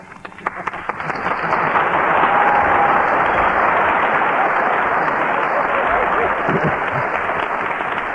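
studio audience applause

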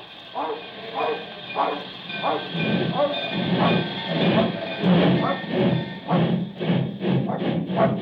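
train running on rails

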